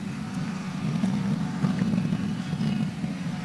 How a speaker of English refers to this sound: So what do I hear behind us? Is that a lawnmower or is that a... Oh, okay. I think it's an airplane coming into the airport. That's what it sounded like.